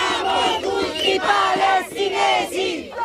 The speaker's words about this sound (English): It gets a good reception. People wave at us from bridges and join in with the chants.